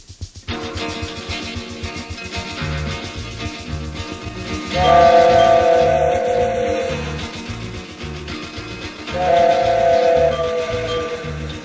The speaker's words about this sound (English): I miss the whistle of an old freight train as she chugged on down the line.